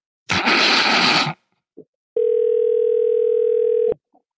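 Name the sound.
telephone dial tone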